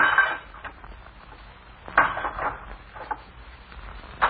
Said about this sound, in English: And each blow of the blacksmith's hammer drives home to them the fact that they are no longer free, no longer able to remain in the village of their birth.